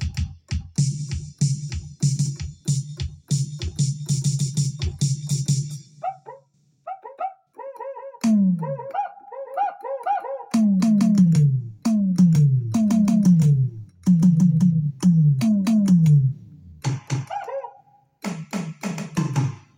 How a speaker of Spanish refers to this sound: estoy ejecutando los samples que he cargado de mis baterías de Roland, de sonidos de enlace, Eclipse, de todos los sonidos, de esos sonidos que me han visto manejar del teclado Genesis. Yo lo he traspasado al Core PA y quiero que lo escuchen.